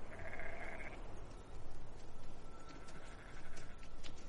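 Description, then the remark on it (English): Sheep bleat as they descend, against a steady outdoor rumble, one wavering call at the start and a thinner bleat drawn out later, with no one talking. “The sheep descend.”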